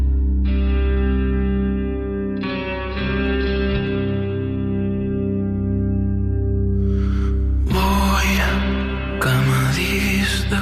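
Atmospheric pop music with sustained, layered synth tones and a steady low bass drone, swelling into brighter, busier textures with echo and effects toward the end. No voices.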